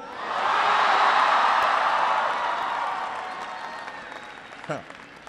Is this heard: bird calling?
no